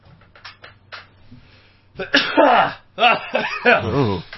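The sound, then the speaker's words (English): A few loud, voiced sneezes burst out after a couple of seconds of faint rustling, coming in quick succession with brief gaps between them. “You got to survive those sneezes.”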